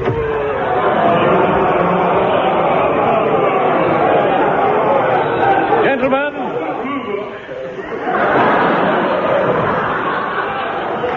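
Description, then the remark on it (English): A dense crowd of many voices murmurs and chatters loudly and steadily as it is let into an auction room, with a brief dip in the middle before the busy babble swells back up. “Quick, stick these auction labels on the furniture and let the crowd in.”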